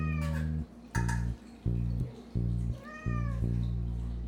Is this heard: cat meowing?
yes